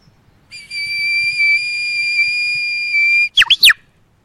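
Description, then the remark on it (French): A person whistles in imitation of a bird, performing Schumann's 'The Prophet Bird' in a 7,000-person hall in Tokyo, Japan: one long, steady high note held for about two and a half seconds, then a few quick swooping chirps. It is clear and loud over faint background noise. “Et puis, il y a ce moment incroyable du Japon, où on arrive à Tokyo dans une salle de 7000 personnes, et on décide de faire l'oiseau prophète.”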